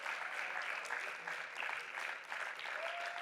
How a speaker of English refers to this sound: So could you give them a round of applause as they come and join me?